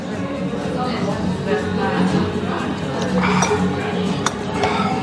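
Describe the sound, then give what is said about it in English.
A few bright clinks of glassware in a toast, a short tap and then a sharper chime, over a steady murmur of background voices and table noise. “Cheers. Let me the wine to the cappuccino thing.”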